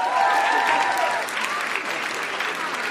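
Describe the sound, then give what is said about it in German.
A crowd claps steadily for those who have come forward to sing along with guitar, a dense wash of many hands at moderate loudness throughout, with faint cheering or voices mixed in near the start. “Ein Applaus für all diejenigen, die sich schon getraut haben.”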